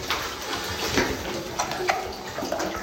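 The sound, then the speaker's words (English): Water churns and splashes for a few seconds, a steady sloshing wash broken by a handful of sharper splashes as swimmers drop off a ledge into the water of a spring in a cave and begin swimming. “The ledge drops out beneath us, and we're swimming.”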